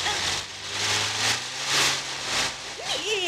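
A car with engine trouble, apparently in the ignition, runs roughly, its low drone surging and sputtering in uneven bursts of noise, with a few high squeaky chirps near the end.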